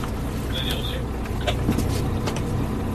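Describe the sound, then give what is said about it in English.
A boat engine drones steadily with a deep, constant rumble, fairly loud, with a few brief clanks and a faint high whine over the engine noise, on a boat off the coast of Normandy, France. “I'm about to disembark from the boat that you can probably hear I'm on.”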